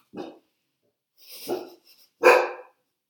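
A very anxious dog barks three times in close succession, each bark sharp, with the last one the loudest; short silences separate them and no one speaks.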